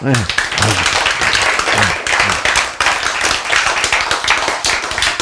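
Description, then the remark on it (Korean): A crowd claps steadily and loudly for several seconds, a dense patter of hand claps with a loose rhythm, while raised voices call out over it near the start. “그래서 이제 여러분이 아직도 박수를 치시는 분이 있고 안 치시는 분이 있는데, 이게 누가 적극적으로 선택하는 거요?”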